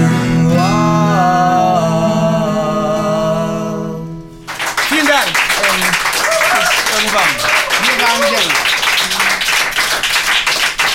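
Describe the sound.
A sustained musical chord rings out for a few seconds and stops, then loud, dense audience applause breaks in and continues steadily, with cheering voices mixed through the clapping.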